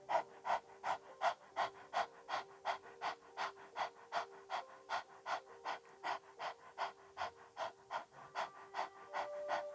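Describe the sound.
A person pants rapidly like a little dog with the tongue stuck out, short rhythmic breaths in a steady, fast series of about two per second, fairly loud, with no talking, during a breathing exercise.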